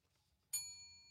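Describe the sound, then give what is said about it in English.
A single soft quiz bell ding, rung by a contestant to answer a quiz question, rings out about halfway through, a bright metallic strike with a sustained high ringing tone that slowly fades, over a faint low rumble. “Well, that's pretty soft ringing, but we'll give it to you.”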